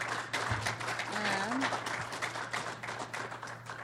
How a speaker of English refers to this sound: Could I have another big round of applause for everybody, for all of our speakers?